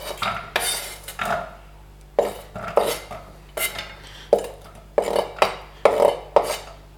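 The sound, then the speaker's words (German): Chopped carrots are scraped and tumbled into a hot frying pan with about 1.5 tablespoons of olive oil, to cook for 1-2 minutes; a series of rhythmic scraping and clattering strokes roughly every half second, with no one speaking. “Optimales Timing, Olivenöl rein. So 1,5 Esslöffel. Jetzt gebe ich zuerst die Karotten rein für 1-2 Minuten.”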